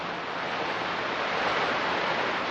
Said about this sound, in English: As they're kicked outward, the electrons produce radio waves. Receivers on Earth hear those waves.